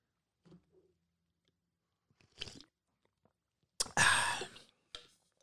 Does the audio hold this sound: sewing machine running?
no